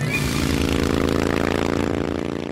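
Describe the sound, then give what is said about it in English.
A Harley Davidson motorcycle engine rumbles loudly, a deep, throbbing, steady running note with a fast chugging pulse, holding its pitch for a couple of seconds with no voices. “And if there is something about motorcycles in general, there is more than a mere something about Harley Davidson motorcycles.”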